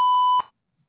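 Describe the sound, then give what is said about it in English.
A single steady electronic beep from a phone call-screening prompt, a clean mid-pitched tone held for about half a second and then cut off, followed by silence. Fairly loud, with no voices. “To connect and talk, just say your name and what you're calling about after the beep.”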